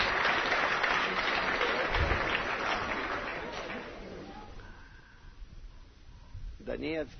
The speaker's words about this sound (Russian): Вы видите, вон там, он, приветствуем Таганрог. Я даже не знал, что они существуют. Аплодисменты в зале.